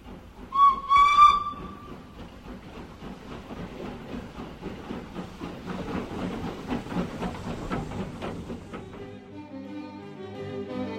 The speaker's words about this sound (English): on May 22nd at 11:30 a.m, for the first time there was a sound of the whistle of the first train on the Kursk-Kharkov-Azov line.